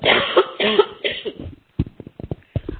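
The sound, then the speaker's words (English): A person coughs several times: a couple of heavy, drawn-out coughs followed by a rapid string of short, sharp hacks, with no speech. “sorry, excuse me, I'm just going to cough.”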